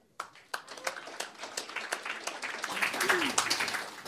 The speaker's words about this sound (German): Und wir müssen uns dann ehrenhalber, und ich hoffe, Sie gutieren das zum Beispiel durch Klatschen, dass Frau Poschmann einen Tag nach ihrem Geburtstag hier nach Frankfurt gekommen ist.